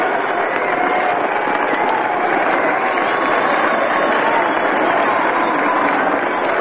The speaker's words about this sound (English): Put up the center fielder, and here's Chandler coming to the plate. And the applause is growing as he walks up toward batter's box.